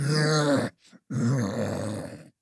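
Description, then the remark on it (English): A voice imitates a muffled dragon moaning while strapped down as energy is sucked from its chest: two long, low, strained groans split by a brief breathy pause, the second rising slightly before trailing off. Fairly loud, with no other talk. “You hear the moans of the muffled dragon roaring strapped down as energy gets sucked from its chest.”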